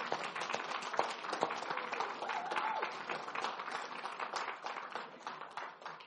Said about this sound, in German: Ein Applaus